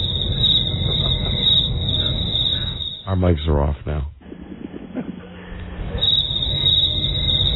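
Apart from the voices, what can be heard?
crickets chirping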